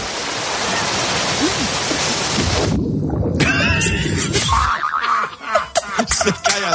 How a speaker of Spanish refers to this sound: Se cae al agua. Ponlo otra vez.